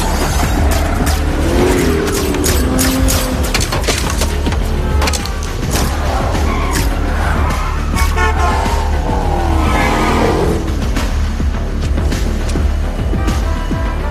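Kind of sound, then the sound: vehicle, stolen car driving away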